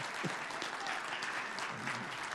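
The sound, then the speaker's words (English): An audience applauds to thank God for Jesus the Christ, in a steady, dense wash of clapping that holds at an even, fairly loud level throughout, with a few faint voices mixed in beneath the claps. “Put your hands together and thank God for Jesus the Christ.”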